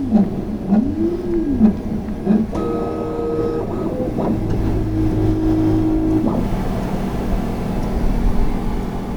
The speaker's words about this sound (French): Oui, l'imprimante travaille toute seule, elle va travailler toute seule cette nuit.